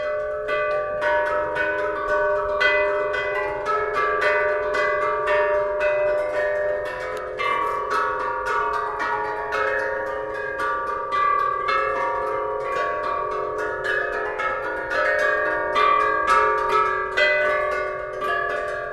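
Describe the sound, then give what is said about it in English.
A modern piece played on ancient bronze bells over 2,000 years old, dating to 433 BC, with a steady stream of struck notes ringing and overlapping in a clear, resonant tune, moderately loud, with no voices. “And these are 2,000-year-old bells.”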